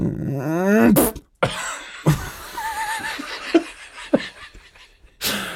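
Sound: imitated fart noise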